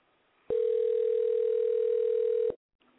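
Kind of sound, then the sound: signal or alarm, phone call ringing tone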